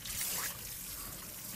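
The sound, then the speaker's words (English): Soapy wet hair being rinsed under running water while the head is tilted back in a chair, starting to squeak as the soap is almost out: a steady trickling, splashing wash with a brief brighter burst at the start and faint rubbing underneath, no one talking. “Here, it's beginning to squeak.”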